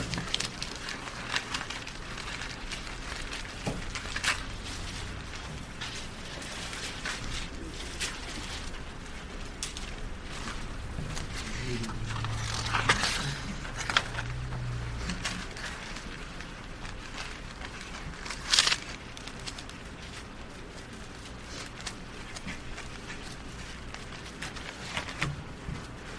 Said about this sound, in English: Our pages turning. Hebrews chapter 9.